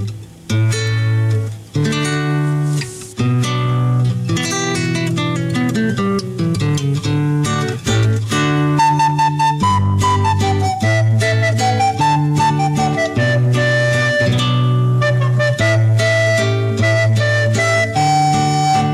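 A song plays loudly and continuously, with sustained melodic notes weaving over a steady low bass line. No talking is heard over the music.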